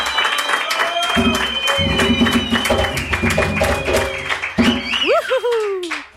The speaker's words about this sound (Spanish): Os pido un grandísimo aplauso para este grupazo que nos está esperando